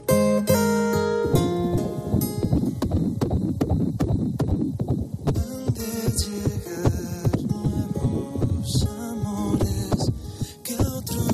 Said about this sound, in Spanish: Pues así suena el latido de un corazón a las 8 semanas de vida.